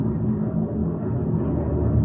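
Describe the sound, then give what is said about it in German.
An airplane passes overhead with a steady, low roaring rumble that stays loud and continuous throughout, without any voices. “Boah, ich glaube, das war richtig nach, dieses Flugzeug.”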